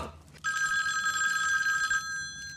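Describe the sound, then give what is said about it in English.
A telephone bell rings loudly, a sustained metallic trill lasting about a second and a half, then cutting off abruptly with a faint echo trailing behind. “The bow is ringing. I'll answer it.”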